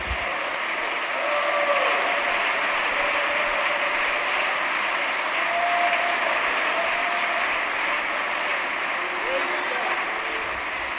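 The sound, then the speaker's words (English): An audience at a church service claps steadily in praise for about eleven seconds, a dense, sustained wash of hands, with faint voices and murmurs rising through the applause. “Let's clap our hands and give him great.”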